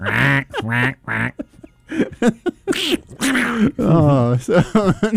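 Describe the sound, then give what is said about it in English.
Several people take turns making exaggerated quacking noises with their voices, a run of loud duck imitations in quick bursts, some overlapping, with laughter-like gaps between them. “I think we should start getting our duck accents in right now.”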